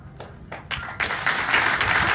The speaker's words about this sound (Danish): Og som vi kan høre her på klapsalverne, så var dem, der faktisk hørte talen, og der er sådan rimelig mange sådan militante panafrikanske aktivister,